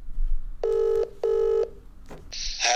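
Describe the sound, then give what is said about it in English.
Two steady electronic telephone tones of the same pitch sound in quick succession as a call is placed to a motoring journalist, followed by a brief click and a hiss of line noise as it connects. “let's get motoring journalist David Tillier on the phone, shall we?”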